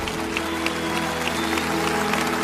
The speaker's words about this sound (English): One more clap, Lakewood.